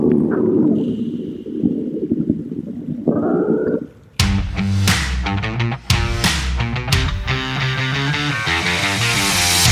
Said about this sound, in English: And then Doran just smelling that cooked rat and getting hungry. The sound of Doran's stomach growling echoes throughout the cavern.